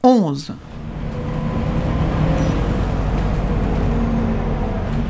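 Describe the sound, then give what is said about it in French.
A city bus's air brakes give a brief, falling squeal right at the start, then its heavy diesel engine rumbles steadily with a faint hiss of street noise behind it; the bus terminates at Pont-Neuf. “Cet autobus a pour terminus Pont-Neuf.”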